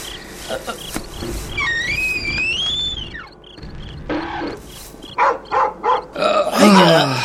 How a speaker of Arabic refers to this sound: هيا نذهب يا كلبي، هيا، أنا الوحيد الذي يفهم معنى نباحك الطويل هذا.